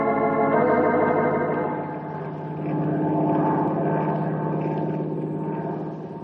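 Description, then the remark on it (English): A steady, loud propeller-engine drone of a seaplane in flight hums continuously, with strong low harmonics and slight swells in intensity, with no other sounds; the plane is carrying a grizzly bear to the North Timber Ridge country. “Well, I hope he enjoys the plane ride all the way.”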